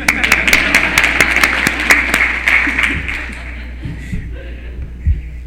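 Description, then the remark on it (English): An audience breaks into steady applause for a speaker's age of 74, a dense wash of many hands clapping with a few sharp standout claps, fading out after about four seconds into faint murmuring. “Usually I get an applause for 74.”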